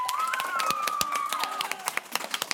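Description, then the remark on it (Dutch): Audience applause as the new HAVO 2B class applauds itself before a pitch: a dense patter of overlapping handclaps with a whistle-like tone wavering above it, then thinning out into a few scattered, sharp claps at the end. “Geef nog even alvast jezelf een heel groot applaus.”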